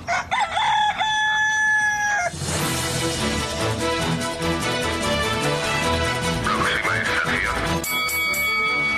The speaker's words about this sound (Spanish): A ver, que pase el gallo.